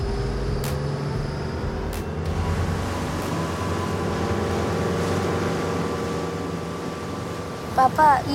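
A boat engine rumbles steadily with a low, constant drone, water and wind noise washing around it as the boat heads out on the sea; a brief clatter comes near the end.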